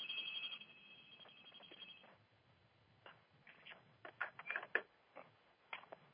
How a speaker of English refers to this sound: Well, excuse me, I just stopped the phone from ringing.